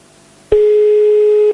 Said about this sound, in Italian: Senti che bello squillo.